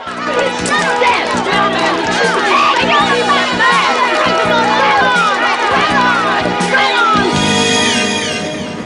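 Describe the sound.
Residents cheer and shout together as gang members flee the streets, many excited voices overlapping in a loud, continuous roar that holds steady for several seconds, with a few higher yells standing out near the end.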